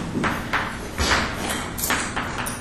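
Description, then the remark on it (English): A series of about six or seven sharp hand claps, each a quick bright smack, spaced roughly every half second at a moderate volume over a faint steady background hum. “So this is clap.”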